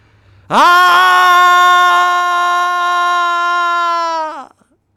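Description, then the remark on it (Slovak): A single eerie scream, played back from a tape recorder that had recorded it the previous evening, rings out loud and sustained for about four seconds at a steady, piercing pitch, starting abruptly and then breaking off, with no voices around it. “Znova sa ozval strašidelný výkrik, ale tento raz Bob a Peter ostali pokojní, pretože sa ozval z magnetofónu.”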